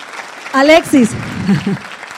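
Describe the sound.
An audience applauds a man introduced from the stage as a master: steady crowd applause fills the whole stretch, a dense crackling wash, with a few raised voices cheering or calling out briefly over it before it settles into clapping alone.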